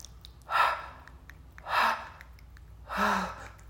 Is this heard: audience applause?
no